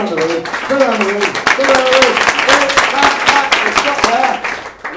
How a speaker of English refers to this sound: Stop clapping! Please, take it around the room.